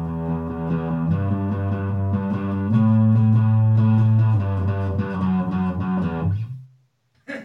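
A heavily distorted electric guitar plays slow, sustained low notes that shift pitch every second or so, loud and buzzing, then fades into silence, followed by a short click at the end.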